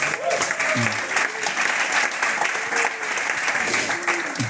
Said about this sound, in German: Das Publikum sagt, klatscht mal oder macht mal Geräusche.